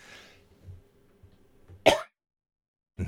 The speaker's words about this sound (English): I had to cough there, excuse me. I got all wound up.